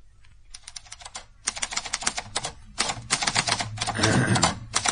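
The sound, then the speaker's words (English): Rapid mechanical typewriter keystrokes clatter in dense bursts with brief pauses between them as a man types upstairs in a workroom, fairly loud, with a low background hum underneath and no voices. “He's upstairs typing.”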